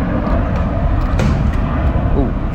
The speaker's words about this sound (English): Ooh, what the? Oh, police copter.